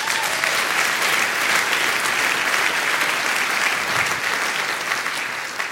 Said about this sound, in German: Jungs, danke euch an der Stelle, ihr könnt kurz Pause machen, ihr braucht keinen aggressiven Personenschutz, ich heiße ja nicht Friedrich Merz, also Applaus an der Stelle für die Jungs, toll gemacht.